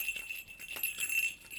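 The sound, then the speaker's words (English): A small toy bell jingles steadily for a moment, a thin, high-pitched ringing with soft shaking pulses, fairly quiet with no voices. “Polly and the bell.”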